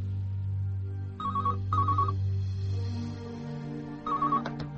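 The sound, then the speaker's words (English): A telephone rings with short warbling electronic trills, two close together and then a third after a pause, over a steady low hum, going unanswered until an answering machine picks up. “Alex Price is unable to answer the phone.”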